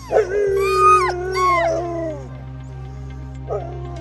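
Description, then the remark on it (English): Door County sled dogs howl and whimper, several drawn-out, wavering cries rising and falling over a steady low hum, then fading to quieter whines with one short yelp near the end. “the Door County sled dogs have kept up their rides all season long, and for one last weekend, are raring to go.”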